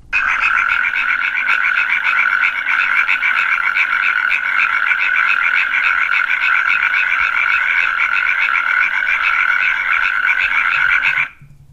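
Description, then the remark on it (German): A natterjack toad calls in a loud, continuous rattling trill that holds steady for about eleven seconds before stopping abruptly, with no voices. “jetzt kommt die Kreuzkröte.”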